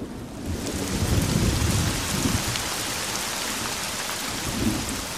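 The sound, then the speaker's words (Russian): Heavy rain pours steadily and loudly, a dense hiss across the whole clip, while low thunder rumbles and rolls underneath, swelling near the start and again toward the end. “Еще не раз вспыхивала молния, не раз прокатывался гром, прежде чем хлынул на землю освежающий дождь.”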